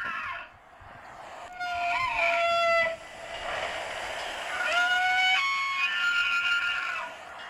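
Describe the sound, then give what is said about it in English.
A bull elk screams twice, each call a long, high, whistling squeal with shrill overtones that swells, holds, then breaks off, the second call slightly longer than the first. “I mean, that also is terrifying if you heard that in the middle of the forest and you heard a bull scream.”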